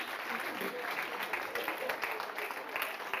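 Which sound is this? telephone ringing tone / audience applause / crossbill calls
audience applause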